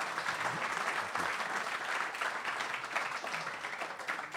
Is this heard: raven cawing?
no